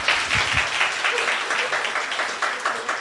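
A crowd applauds steadily for about three seconds, a dense wash of many hands clapping at an even, sustained loudness with no voices rising above it.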